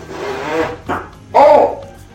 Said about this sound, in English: Here comes my favorite fart of the video.